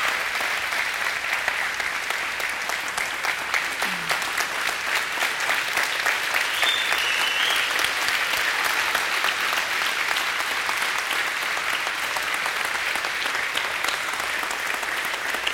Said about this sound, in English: Thank you. You may be seated at this time, and I'll ask you to just hold your applause for just a second.